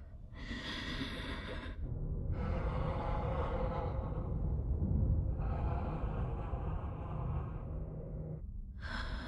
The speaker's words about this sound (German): Osha setzt den Helm auf, sie atmet schwer.